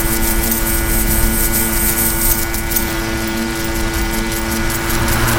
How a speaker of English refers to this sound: It's a lawnmower. Okay, bro, can you quit mowing the lawn while I ride my bike?